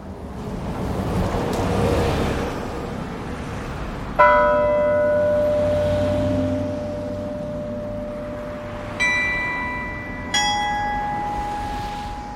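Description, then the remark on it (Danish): The 49 carillon bells at the top of the 60-metre Frederiksberg Town Hall tower ring out a few slow, resonant notes at differing pitches of an evening hymn played as a farewell to Niels, heard at Frederiksberg Rådhusplads. Each tone hums on and fades over a steady low rumble, with no one talking. “Aftensalmen til Niels har lige spillet sine første toner ud over byen.”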